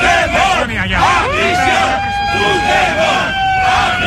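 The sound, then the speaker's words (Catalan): A protest crowd of about seventy people at the Ciutat de la Justícia chants and shouts loudly in unison against Pedro Sánchez, calling him a traitor. Many voices rise and fall together, while a steady high-pitched tone, like a whistle or horn, holds through the second half. “Càntics contra Pedro Sánchez amb expressions com traïdor i, evidentment...”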